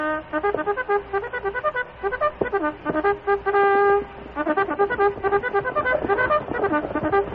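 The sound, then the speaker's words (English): A bugle call rings out alone as a warning to troopers on a train: quick, rhythmic bursts of brassy notes, one long sustained tone in the middle, then more rapid repeated notes, all fairly loud with no voices. “I have a bugle here to give them a warning.”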